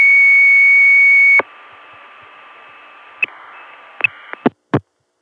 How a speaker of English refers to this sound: This was apparently a modem. It stayed off hook for a total of 18 and a half seconds. Here's where it hung up.